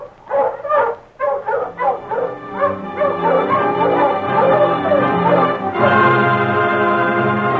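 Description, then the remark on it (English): A pack of sled dog huskies barks and yelps excitedly as the team sets off, many voices overlapping in a loud, continuous clamor, growing denser and more sustained toward the end. “Mush, you huskies! Mush!”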